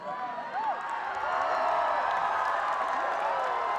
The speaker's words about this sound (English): that cheer, I have no earplug in my right ear, that cheer was louder than the snare. That was pretty intense.